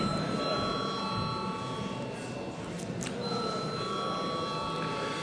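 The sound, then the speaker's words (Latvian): A chairman's bell rings in parliament before a vote, steadily for about five seconds, a bright, sustained metallic tone with a brief dip in the middle, over a constant background murmur of voices. “Paldies, lūdzu zvanu.”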